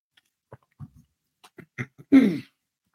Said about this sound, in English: And I'm going to take a sip of water before we do that.